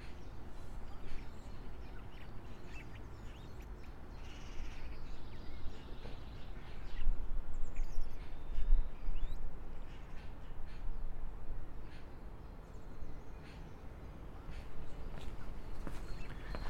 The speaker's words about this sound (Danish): Du kan også selv høre fuglene nu. Der er skønt her.